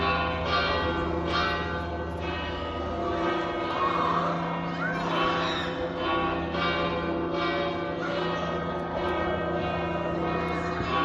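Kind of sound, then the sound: signal or alarm, cathedral church bells pealing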